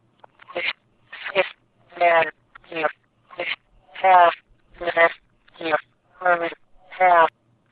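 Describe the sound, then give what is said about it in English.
A cell phone number being dialed on a phone in hands-free mode: eleven short, evenly spaced voice-like beeps or spoken digits, one every half second or so, clear, with silence between each. “Okay, let's dial my cell phone number here, and we'll see what happens.”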